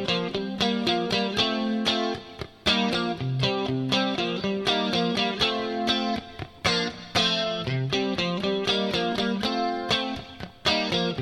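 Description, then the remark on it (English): A clean electric guitar, a Strat set to pickup position four (neck and middle), plays a busy, rhythmic verse part of chopped chords and quick picked notes, shimmering with reverb and chorus, steady and fairly loud with no voices. “And I'm going to switch settings on my guitar.”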